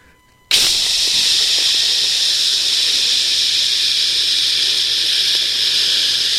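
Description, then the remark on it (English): A Lysol aerosol disinfectant can sprays in one long, unbroken burst. The loud, bright, high-pitched hiss starts abruptly after a moment of silence and holds steady for about six seconds, with no talking. “you better be spraying Lysol on your shaft. It should just be like this.”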